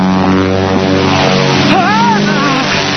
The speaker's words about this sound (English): That's a violation of your airspace. Follow that plane!